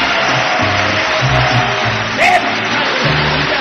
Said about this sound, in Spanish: Un aplauso bien bonito para mis muchachos de …, de León, Guanajuato.